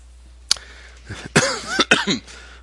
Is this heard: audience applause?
no